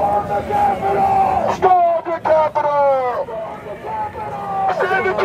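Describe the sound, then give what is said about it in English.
A large crowd of thousands of people arriving at the US Capitol as a thunderstorm comes in, a dense wall of many voices calling and shouting over steady loud babble, with raised cries rising out of the din every second or so. “The big crowd that Trump sent over was starting to arrive. Thousands of people.”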